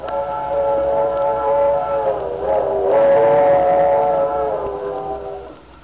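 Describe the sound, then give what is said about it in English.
The whistle of the 7:15 train blows a long, sustained chord that dips in pitch midway and swells again, sounding fairly loud against a low rumbling background before fading out at the end. “There's our whistle, Lefty. Yep, the 7:15.”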